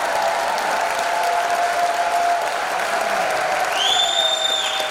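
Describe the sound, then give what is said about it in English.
An audience at a dance studio recital claps steadily for about five seconds as the young dancers bow, a dense, even patter of applause with no pauses. Near the end, a thin high-pitched tone rises faintly above the clapping. “All right, one more round of applause, everybody.”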